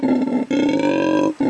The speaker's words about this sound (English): that this is a sound coming out of a monkey? What's the monkey doing? Do I want to know what the monkey's doing? Just perched up on a tree. Oh, he's not even like sleeping? No. This is the noise that this monkey makes. It's called a howler monkey.